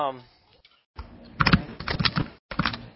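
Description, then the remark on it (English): Rapid, uneven keyboard typing with clustered clicks, starting after a brief faint voice and a short pause, with a gap before a final burst of keystrokes. It is heard over a TeamSpeak voice chat because the typist's push-to-talk button is one of the keys being typed on. “He's typing, and from what I can gather, one of his push-to-talk button is one of his keys he's using to type.”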